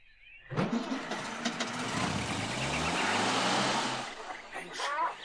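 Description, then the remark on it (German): A strong outboard motor on a speedboat at a canal sputters to life, quickly revving into a loud, steady roar that holds for a few seconds before easing off. “Schnell liefen die beiden zum Kanal und starteten den starken Außenbordmotor ihres Flitzers”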